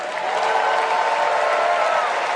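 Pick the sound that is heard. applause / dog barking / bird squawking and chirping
applause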